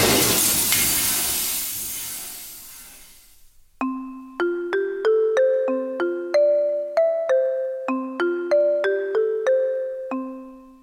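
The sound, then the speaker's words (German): A music box is hurled onto the floor with great force and smashes into tiny pieces: a loud crash bursts out and fades over a few seconds of scattered rattling debris, then a music box plays a bright, tinkling melody of evenly spaced plucked notes that ring and decay. “Hat sie gesagt, dann hat sie die Musikdose gepackt und hat sie mit so einer Wucht am Boden geschleudert, dass sie in tausend kleine Stückchen verbrochen ist.”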